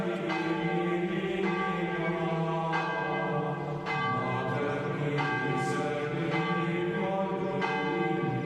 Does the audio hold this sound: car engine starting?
no